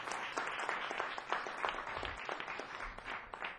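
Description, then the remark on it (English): A crowd applauds steadily, many hands clapping in a dense, continuous patter that stays fairly loud throughout with no voices on top; a round of applause for English poet John Whitworth. “And so that's a round of applause, please, for English poet John Whitworth.”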